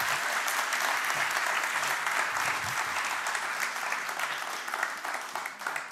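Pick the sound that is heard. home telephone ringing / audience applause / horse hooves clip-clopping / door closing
audience applause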